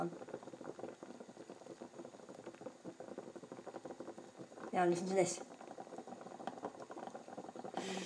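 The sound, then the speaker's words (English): Water bubbles at a steady rolling boil in a pan on a gas hob turned down to medium heat, a dense continuous patter of small pops, with a louder, brighter surge of bubbling around the middle. A voice speaks briefly over it. “There's the normal bubbles.”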